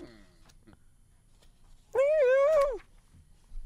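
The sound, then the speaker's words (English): A single drawn-out cat meow, clear, rising then sliding down over nearly a second, against a faint low rumble and a few soft clicks. “No, that's just, this is …'s voice. This is a cat voice.”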